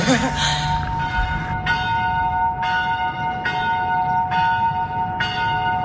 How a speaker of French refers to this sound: Alors ici, on se trouve dans le clocher de la cathédrale de Fribourg, devant ce qui est une des plus grandes cloches de Suisse, et surtout la plus grosse cloche de Suisse romande.